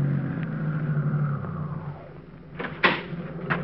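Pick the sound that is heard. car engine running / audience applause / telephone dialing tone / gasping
car engine running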